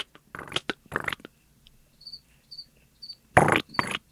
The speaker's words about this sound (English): It's usually nice and cool, so I had to open up a window. But welcome the crickets to the show, by the way. I have background music.